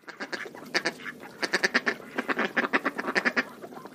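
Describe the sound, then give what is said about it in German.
Mallard ducks quack repeatedly in quick, uneven bursts, several calls overlapping and fairly loud, with no voices present. “Bei den Stockenten ist das ganz einfach.”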